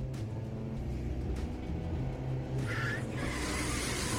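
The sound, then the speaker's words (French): A car engine drones and strains steadily as the driver accelerates but the car barely moves, a low rumble filling the whole stretch, with a brief higher whine rising near the end as the motor is pushed harder. “Et merde, j'accélère, mais j'avance presque pas. Mais qu'est-ce qu'elle a cette bagnole?”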